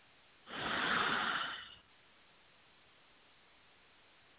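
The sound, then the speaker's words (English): A single slow, deep breath, a soft airy rush lasting just over a second, followed by quiet stillness. “breathing with you.”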